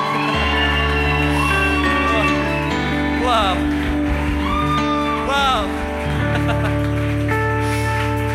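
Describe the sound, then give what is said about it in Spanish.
A loud crowd shouts, whoops and applauds continuously, with rising cheers rolling over steady, sustained music, energetic throughout. “darle un grito más fuerte, un aplauso más fuerte.”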